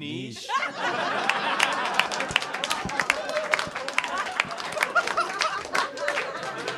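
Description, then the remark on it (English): A crowd bursts into steady applause for the correct pronunciation of the word "niche", many hands clapping in a dense, crackling patter that holds for several seconds, with a few chuckles and murmured voices mixed in. “Everyone listening right now just went, why did they applaud that?”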